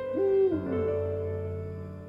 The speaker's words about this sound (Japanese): フクロウか